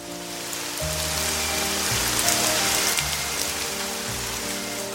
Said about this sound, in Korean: 요란하게 쏟아지는 소나기를 멀뚱히 바라보는 아줌마의 그렁그렁한 눈물이 고기를 삼킬 수 없도록 만들었다.